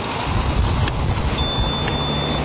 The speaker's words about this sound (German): Um zur Straßenbahn zu kommen, muss ich die Favoritenstraße überqueren. Ich bin nun bereits beim Ampelmasten und man hört trotz des Verkehrslärmes auch das Ticken der Ampel mit akustischem Signalgeber.